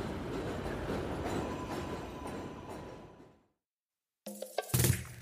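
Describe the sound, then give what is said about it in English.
A train rumbles past overhead near a train station and a bakery, a loud, dense roar with a faint metallic whine that fades away after about three seconds into silence, followed by a brief, different sound. “As we get to the bakery near the train station, a train passes overhead and...”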